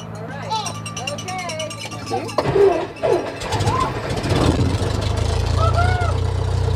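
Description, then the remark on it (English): The engine of a Cessna 172, a small four-seat propeller plane, runs with a steady low droning hum that grows louder and fuller partway through as the plane takes off, while voices talk over it. “After the plane takes off,”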